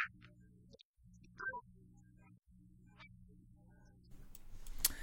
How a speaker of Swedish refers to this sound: Vi har så här, vad heter det? Klippgrej så. Det kommer in lite sån så här, det är en, nu tar jag en sån här filmgrej som man bara klick, cut eller action.